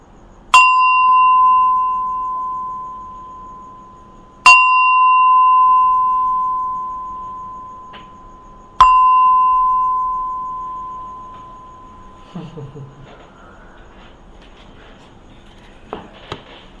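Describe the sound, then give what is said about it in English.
A meditation gong is struck three times at steady intervals to mark the end of a meditation, each clear ringing tone sustaining and slowly fading before the next strike, followed by faint shuffling sounds. “I will rock, ring the bed, gong 3 times. Please wait until the very last ding, and then you can come out of your meditation.”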